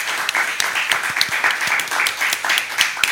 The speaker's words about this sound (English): So that's very exciting, and also I thought we would just give another round of applause for the amazing cast of Bitches Get Personal.